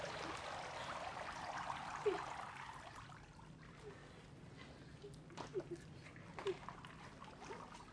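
Water sloshes and trickles steadily as someone rises out of the shallow water of a pond, with a couple of sharper splashes and drips breaking through the soft, continuous running noise.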